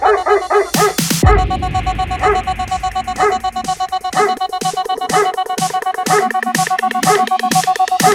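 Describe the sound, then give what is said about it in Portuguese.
Repeated sampled dog barks punch through a busy electronic music track in a rhythmic pattern, loud and up front, with sharp yips landing on the beat alongside synth stabs. “Late, que eu tô passando, vai. Late.”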